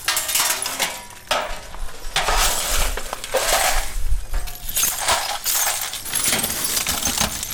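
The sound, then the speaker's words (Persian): Broken glass shards clinking and scraping as families in Kabul, Afghanistan, gather up glass from their homes shattered by explosions in the previous day's attack, a steady stream of bright jingles and crunches with brief pauses between scoops. “اینجا خانواده های آسیب دیده در رویداد روز گذشته شهر کابل مصرف جمع‌آوری شکسته های شیشه و وسایل خانه هایشان هستند که به اثر شدت انفجارها از بین رفتند.”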